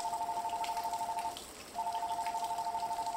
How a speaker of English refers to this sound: Suddenly, the phone rang.